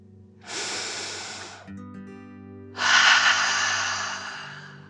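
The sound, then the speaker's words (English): A deep breath drawn in through the nose, a short pause, then a long, forceful exhale through the mouth, clear, with a faint steady hum underneath and no talking. “Again, deep breath. In and out.”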